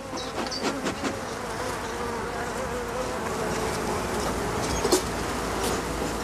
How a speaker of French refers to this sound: Il faut être très, très doux en fait avec les abeilles, il faut y aller en douceur, parce que sinon après voilà, elle peut être agressive.